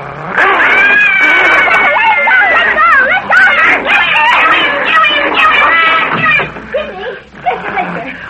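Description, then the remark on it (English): A dog fight as the dog Mr. Blister tries to bite the small dog Toto, who yelps: frantic, high-pitched yelps, whines and snarls pile on top of one another almost nonstop, loud throughout before breaking up into scattered cries at the end. “Blister tried to bite my dog.”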